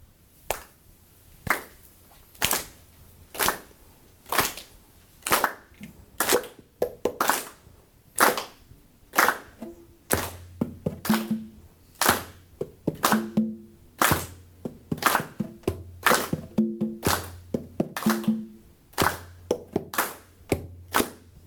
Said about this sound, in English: So this one we're just going to do, we're going to clap a pulse.